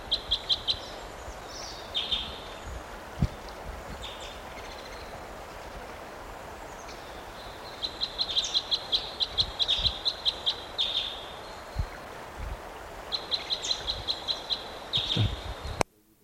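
High-pitched calls of a type 5 bird repeat in bursts of rapid chirps, with another type 5 bird sounding just like it, quieter stretches between, over a low steady background hum and occasional faint thumps.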